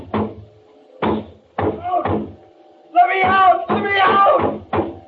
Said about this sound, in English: I went to the door, banged on it.